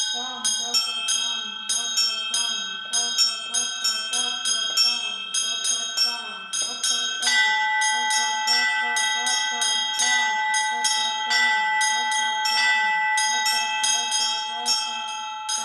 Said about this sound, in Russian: Уже сейчас, конечно, раньше традиции колокольного звона передавались от отца к сыну, и в основном были как бы определенные дворы, что это дело передавалось с поколения в поколение.